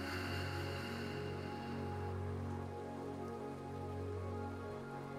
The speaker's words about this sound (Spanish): Deja ir todo lo que la lluvia ya se llevó. Sigue respirando y disfrutando del sonido de la lluvia.